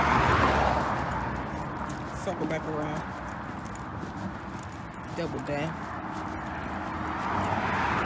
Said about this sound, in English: But I was waiting for those cars to pass so that I could keep talking.